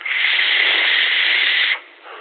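A steady, breathy hiss of vapor being exhaled into a microphone, holding evenly for nearly two seconds before cutting off, followed by a faint low hiss.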